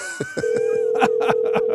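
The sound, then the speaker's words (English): A steady electronic phone ringing tone sounds clearly and continuously at a moderate level, with faint thumps and rustling noises popping up around it. “I know if I were him, I definitely would not be answering the phone right now.”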